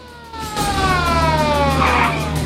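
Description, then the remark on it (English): Police car sirens wail loudly, their sweeping tones gliding steadily downward over a low engine rumble, with no one speaking, as police cars swarm the streets. “The streets swarming with cop cars behind which armed cops take cover.”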